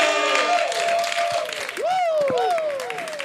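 An audience claps steadily for a few seconds, the applause dense and loud throughout, with high whoops and whistle-like calls sweeping up and down over the clapping.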